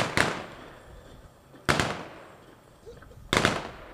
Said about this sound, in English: and then the echo of the rifle shots were heard.